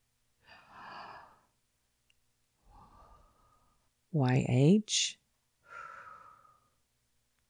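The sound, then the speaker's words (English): A voice pronounces the letters YHWH without intervening vowels, imitating breathing with airy, aspirated exhalations, three soft breathy pushes spaced apart, interrupted midway by a short, louder voiced sound, fairly quiet. “When pronounced without intervening vowels, it actually sounds like breathing.”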